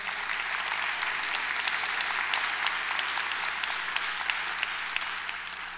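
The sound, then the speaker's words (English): A church audience applauds steadily to show it is praying for its Nagpur, India campus and young people at the Kent County Juvenile Detention Facility, a dense, sustained wash of many hands clapping at an even loudness with no voices standing out, holding for several seconds before easing slightly at the end. “By way of applause, would you let them know we're praying for them?”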